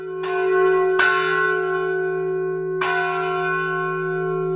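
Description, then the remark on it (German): The tower bell of St. Stephanus church in Freckleben, dating from 1079, tolls three times in uneven succession, each strike ringing out loud with a long, humming sustain that blends into the next; no voices are heard. “Vor der Glocke im Kirchturm der Freckleber St. Stephanus-Kirche kann man schon ein wenig Ehrfurcht bekommen.”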